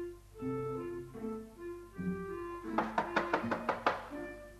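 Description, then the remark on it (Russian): A quick run of about seven sharp, evenly spaced knocks on a door, rapping out over a bright melodic tune that plays throughout. “Одну минуточку, там стучат.”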